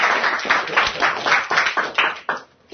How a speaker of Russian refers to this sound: Все, спасибо, мужики. Дайте им аплодисменты. Спасибо.